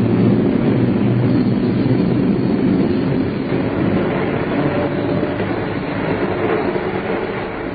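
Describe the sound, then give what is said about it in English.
A steady, muffled rumble of a train in motion as heard from inside a carriage, low and continuous with a faint rhythmic undertone, holding at an even loudness throughout with no voices. “Time drags on the train.”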